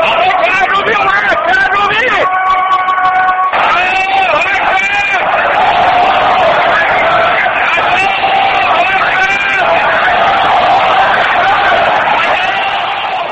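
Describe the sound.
A large crowd shouts and chants "Allahu Akbar" in unison, voices rising in loud, sustained waves over a constant roar of hubbub, with brief harmonic cries standing out above the din. The crowd is greeting Mehdi Karroubi as he arrives near Tehran University for Friday prayers in Tehran.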